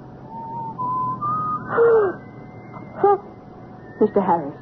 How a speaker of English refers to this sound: are you whistling? Me? No. Are you? No, I can't whistle.